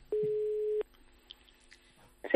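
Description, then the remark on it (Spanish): A telephone ringback tone sounds once while placing a call, a steady, clear beep lasting under a second, followed by a quiet pause before a brief voice appears at the very end. “Te voy a dejar el sonido del teléfono y tú directamente hablas con ella.”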